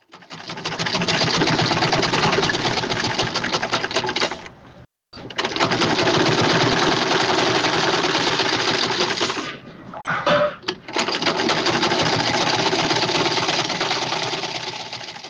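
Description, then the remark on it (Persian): A sewing machine runs steadily with a dense, rapid mechanical whir, pausing briefly twice before starting up again. No one speaks. “ماشین خیاطی، قیچی، متر، سوزن و تار، پنسل، قلم رنگه و یا تباشیر از وسایل ضروری خیاطی محسوب می شوند.”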